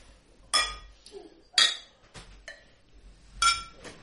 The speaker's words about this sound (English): I'm wholly clinking your glasses.